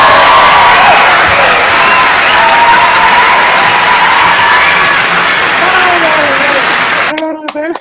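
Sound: applause and cheering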